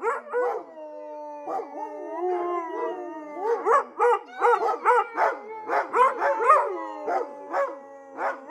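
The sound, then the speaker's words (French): A chorus of wolves howling together, long overlapping wavering howls mixed with sharp yips and short barks, loud, with no voices. “J'entends beaucoup de loups.”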